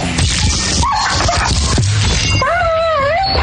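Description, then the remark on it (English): A dying dog whimpers and yelps, loud sharp yips broken by a long, wavering high-pitched whine near the end, with no talking. “This is how Roxy's dog died”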